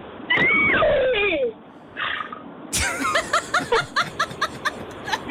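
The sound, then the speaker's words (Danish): An eight-year-old girl imitates a horse, starting with a high wavering whinny-like cry, then breaking into a rapid series of about ten short, rhythmic pulses like a snorting, neighing trot. “Det var det sidste, der gjorde, at der er en medalje i EM i dyrelyd. Meget, meget, meget flot hest.”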